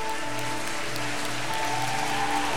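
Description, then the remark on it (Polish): A large crowd claps continuously and fairly loudly, applauding people's decision to come forward, a dense, steady patter of many hands with a soft sustained musical tone underneath throughout. “Zabijmy brawo dla tą decyzję.”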